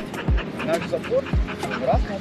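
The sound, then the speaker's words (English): Several sled dogs bark and yelp in overlapping bursts at a kennel on a sled-dog farm in the woods of far eastern Russia, among fir trees; some loud, others higher-pitched, creating a busy, excited chorus. “documenting his experience moving out into the woods in far eastern Russia, where he started a farm raising sled dogs.”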